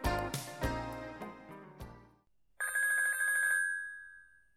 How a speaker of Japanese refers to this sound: 君からの着信だということは分かっていた。それでも僕は受話器を取ることはなかった。